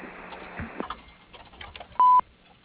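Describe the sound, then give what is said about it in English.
A single short, loud electronic beep, a company's voicemail tone prompting the caller to leave a message, sounds near the end after a stretch of faint, muffled telephone-line noise and clicks, then the line goes quiet. “Please leave your name, telephone number, and message after the beep, and we will promptly return your call.”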